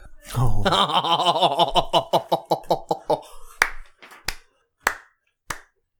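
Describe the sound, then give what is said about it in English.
A person claps their hands in a quick run alongside laughing, then the claps slow to four sharp, isolated smacks spaced about half a second apart as the laughter fades. “So for everyone else, because no one knows why I'm applauding, I believe a duplicate copy of Morik was just handed to”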